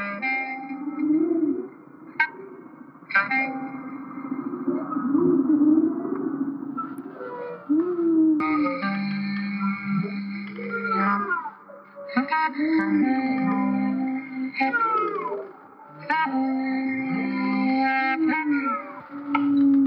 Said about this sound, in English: What do you think of the whale songs? It might not be the type of music that you turn on when you want a dance party